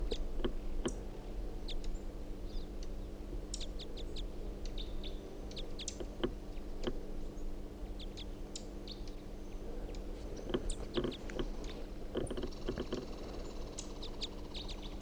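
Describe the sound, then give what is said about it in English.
A female bird calls in quick, sharp, high-pitched chirps, scattered irregularly and sometimes clustered, over a steady low hum. No one speaks. “This is the female.”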